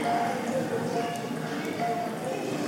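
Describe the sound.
Children make rhythmic clip-clop sounds with their mouths, imitating donkey hooves in a steady repeating pattern, fairly loud over a noisy background, as children playing Marys, Josephs and donkeys set off walking.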